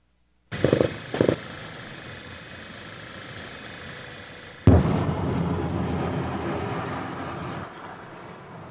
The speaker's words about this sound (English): We're seeing images of car driving through a city as artillery detonates and explodes, missile launchers, tanks, just, oh my God, look like hundreds of tanks.